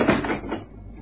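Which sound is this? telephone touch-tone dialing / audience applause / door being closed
door being closed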